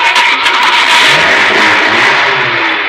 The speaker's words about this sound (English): Okay, now start the car.